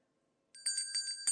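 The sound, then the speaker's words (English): A bright, metallic countdown timer bell rings abruptly after a moment of silence, sustaining with a rapid rattling trill of repeated strikes, clear with no talking, signalling one minute remaining in a speaker's three-minute presentation at a meeting. “What we do to assist you to manage time is there's a countdown timer that should be appearing on your screens, and it will count down for you, and at 2 minutes you will hear a bell.”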